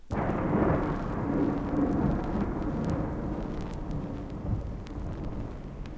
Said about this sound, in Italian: E quando al misterioso rombo del tuono